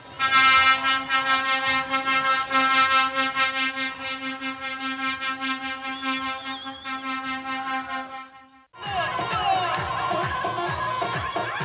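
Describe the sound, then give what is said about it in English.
A loud, steady air horn blares in rapid pulses over a noisy crowd, then cuts out briefly before excited shouting and cheering from a group of young people celebrating on top of an 18-wheeler truck in Bethlehem after passing their Tawjihi graduation exams. “The first one is of a group of youth celebrating on top of an 18-wheeler truck in Bethlehem.”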